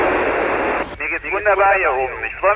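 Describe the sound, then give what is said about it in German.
A burst of loud, crackling radio static gives way abruptly to the voice of astronaut Matthias Maurer speaking over a thin, band-limited radio link from the International Space Station, received in Freiburg, the transmission fairly clear after the hiss cuts out. “Anfangs ganz schön knarzig, ne? Wie damals bei der Mondlandung, aber dann wird super klar und deutlich.”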